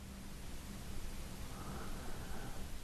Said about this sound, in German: Doch nun ist die angenehme Ruhe eingekehrt. Das Rauschen des Meeres ist so angenehm beruhigend.